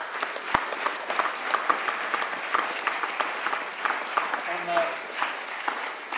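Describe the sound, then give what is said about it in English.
A crowd applauds the panel at the close of an event, many hands clapping in a dense, crackling wash that holds at an even level throughout, with a brief tonal murmur partway through. “On that very positive note, I'd just like to say a huge thank you to the panel for taking the time to be here, and a round of applause, please, again for the panel.”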